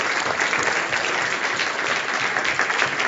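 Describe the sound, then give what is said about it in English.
An audience claps steadily and loudly, a dense wash of many hands clapping at once with no pauses, sustained for the full few seconds, giving a round of applause to Santi and his team. “So let's give a round of applause to Santi and his team.”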